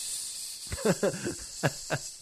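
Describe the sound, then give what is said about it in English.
A voice imitates a viper's hiss: a steady, airy hiss runs throughout, broken by four or five short, throaty voiced bursts in quick succession. “Yes, like a pun viper striking with my deadly poison.”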